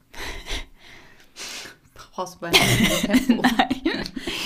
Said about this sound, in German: Boah, ich muss niesen.